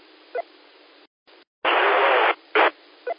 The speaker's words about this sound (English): It's in white noise, but I can hear you.